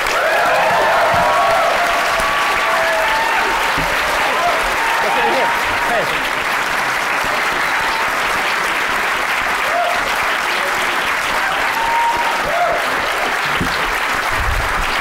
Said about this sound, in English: Thanks, y'all. Oh, complicated. Now, if you're done clapping for me,